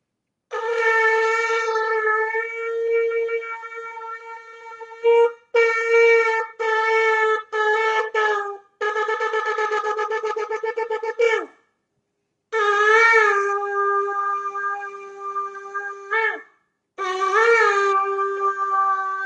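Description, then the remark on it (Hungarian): A shofar is blown over Zoom for the month of Elul: a long sustained note, several short broken bursts, a rapid staccato run, then more long wavering calls. The tone is loud and brassy with no voices. “Természetesen ezzel nem lehet eleget tenni a szokásnak, ami csak a Zoomon keresztül, de szimbolikusan egy kicsit növelni az Elul hónapnak a hangulatot, ami a megtérésnek a hangulatnak a megtérésről szól, ezért fújni fogom most a sófát.”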